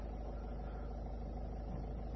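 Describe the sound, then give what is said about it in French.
A garbage truck's engine and machinery idle in a low, steady rumble, heard from behind the truck, dense and constant with no breaks, the only sound present. “Je vais me tenir à distance parce que je suis derrière un camion poubelle et leur machine a tendance à faire du bruit.”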